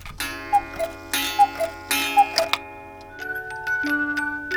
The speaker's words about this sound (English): who's going to keep it and all the other timepieces they care for ticking when they retire?